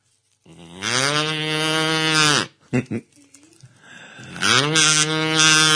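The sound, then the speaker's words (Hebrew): A man, a medical clown from Beitar Illit, imitates a cow with two long, loud, drawn-out moos, a short pause with a few brief vocal sounds between them. “בחור שעושה לי קולות של פרה.”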